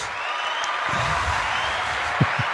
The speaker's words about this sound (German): du hast doch hier auf deinem Mischpult diesen tollen Knopf mit dem Applaus. Ich wollte doch einmal hören.